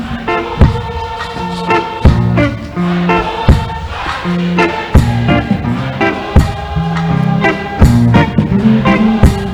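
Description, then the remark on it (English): An audience shouts back in unison over a loud live band, with steady drum hits and sustained chords filling the space. “congregation, say.”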